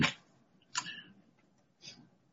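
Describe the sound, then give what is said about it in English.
A small clock gives three sharp, dry clicks at uneven intervals, fairly quiet against a faint low background hum, with no voices. “I meant to get a little clock start. Okay, I got my clock.”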